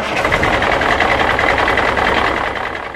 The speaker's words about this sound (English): Now, noise produced by humans is also typically of a low frequency. Think of a truck rolling down the road or similar.